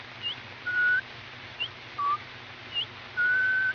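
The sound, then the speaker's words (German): A person whistles a short, chirpy tune imitating little songbirds, with brief high peeps alternating with longer sustained notes and gliding trills, clear over faint background hiss. “Die Hochzeit findet nun statt und die Vöglein pfeifen dazu.”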